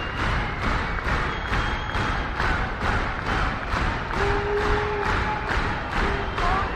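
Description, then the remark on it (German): A large concert audience claps in unison with a steady, brisk beat, roughly three claps per second, loud and continuous, calling for more, with a few whistles and shouts rising over the clapping. “Wenn Leute so rhythmisch klatschen, dann heißt das, sie wollen noch mehr.”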